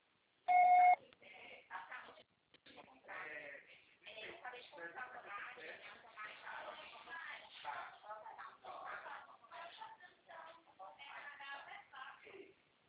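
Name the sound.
answering machine beep tone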